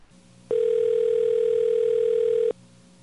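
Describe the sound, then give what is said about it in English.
A single steady telephone tone sounds loud for about two seconds, then cuts off abruptly, as when placing a call, with only faint background hiss before and after. “So let's get him on the phone.”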